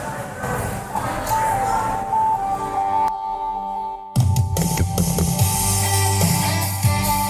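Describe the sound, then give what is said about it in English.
A song plays steadily with a melodic tone line and full band backing, briefly dipping near the middle before coming back louder with heavier bass; no speech over it. “Like I said, this is a song called ….”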